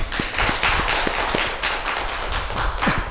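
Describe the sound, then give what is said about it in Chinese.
A crowd applauds a section chief chosen as a model civil servant. Many hands clap steadily in a dense, crackling wash of sharp claps. The clapping stays loud and even throughout, with no voices. “所以说我们现在还是给他鼓励一下，给他热烈掌声。”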